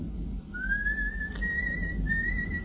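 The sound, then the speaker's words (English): A coachman whistles a long, steady high note that slowly rises in pitch and breaks briefly near the end, clear over a low, continuous rumbling background. “The coachman is whistling.”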